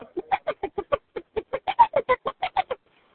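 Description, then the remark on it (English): A voice imitates a mildly agitated hen in a chicken coop, disturbed by a cat entering the coop, giving a quick, steady run of about seventeen short clucks, clear, with no other sound around them. “The disturbed chicken coop begins with a hen gently picking the ground, like so. Then a kitty cat enters the coop, and it becomes a little bit more disturbed.”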